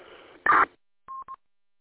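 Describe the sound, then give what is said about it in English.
An MDC 1200 radio data burst: after a stretch of low hiss comes a loud, harsh, buzzy burst lasting about a quarter second, then two short, steady mid-pitched beeps. “I was like, this ain't no packet beep. That's MDC 1200, man.”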